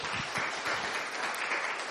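An audience claps their hands together in a dense, steady wash of applause that holds at an even, fairly loud level for the whole two seconds, with no voices over it.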